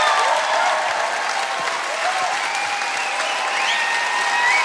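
Steady, dense applause from an audience, a continuous crackle of many hands clapping at an even loudness throughout, with no voices standing out.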